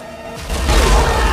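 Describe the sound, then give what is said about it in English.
A sudden heavy blast erupts from a tank's cannon as fire shoots out after a brief lull, a loud, deep boom with a rumbling low end that sustains and roars on through the rest of the moment. “A blast of fire shoots out of the cannon, the turret rotates, and the guns at the sides mow down the men.”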